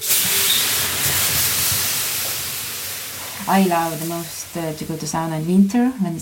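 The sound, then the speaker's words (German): A large ladle of water is poured over hot stones in a sauna with black walls, giving a loud, steady sizzling hiss of steam that lasts a few seconds and slowly softens, then a person starts speaking while the hiss lingers underneath. “gießt eine große Kelle Wasser über die heißen Steine.”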